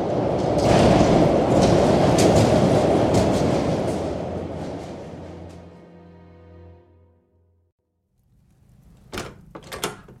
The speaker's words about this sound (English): A train's coming.